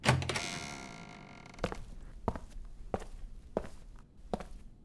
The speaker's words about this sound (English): Jane Ross opened the door and went into a small room.